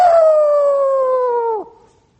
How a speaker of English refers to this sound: you ever notice how the call of the wild is predominantly a baleful, doleful call? The coyote.